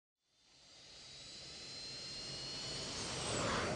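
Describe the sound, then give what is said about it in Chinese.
Jet engines spool up into a steady, building roar with a high whine on top, growing louder over a few seconds as an airplane accelerates for takeoff in bad weather, meeting turbulence right after takeoff. No one speaks. “一起飞就遇到了气流。”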